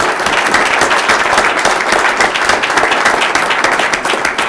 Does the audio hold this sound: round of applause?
yes